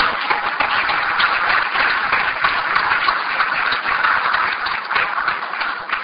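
Sustained audience applause at a diocesan conference, thanking the bishop, athletes and mayor, a dense steady wash of many hands clapping at an even loudness for about six seconds, with no voices standing out above it.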